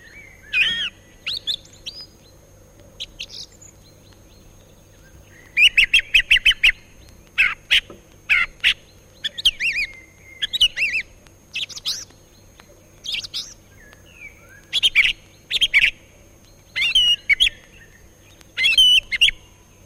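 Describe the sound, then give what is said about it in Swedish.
A song thrush sings a run of short, sharp phrases with clear, strong flute-like tones, each burst repeated in quick succession with brief pauses between, over a steady low rumble in the background. “det var taltrastens sång”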